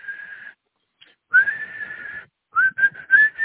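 A shrill whistle sounds alone: a short blast, a longer sustained one after a pause, then a quick run of short, sharp toots.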